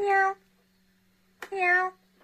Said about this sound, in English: Let's keep it going with the cat piano song that we're playing